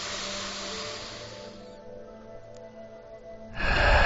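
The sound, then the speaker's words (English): A slow, deep breath drawn in through the nose during a guided meditation, a steady airy hiss that gradually fades, followed by a short hush before a louder rush of breath starts at the end. No one speaks. “Take some slow, deep breaths all the way in through your nose.”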